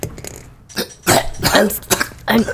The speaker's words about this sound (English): You hear coughing from up in the vents. Did you hear that? Was that the Lilth cat? I don't know, or the monkey thing? I don't know.